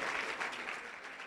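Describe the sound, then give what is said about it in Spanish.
A church audience claps together in sustained, dense applause for the Lord, a steady wash of many hands without pause for the whole moment. “Dele un fuerte aplauso al Señor, fuerte.”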